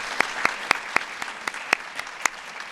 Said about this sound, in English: She is terrific, and we have to give her a round of applause.